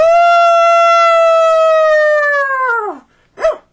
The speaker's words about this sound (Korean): 그 시각 도구는 경황후가 떠나간 동쪽 바라보며 우렁차게 짖고 있었다.